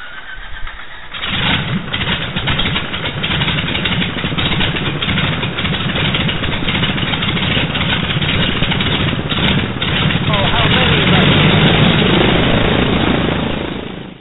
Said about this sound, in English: But right now, let's go back to the Old Faithful, and they are 2800 engine. So clear prop. Clear prop. Clear.